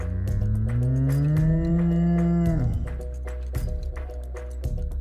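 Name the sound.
cow mooing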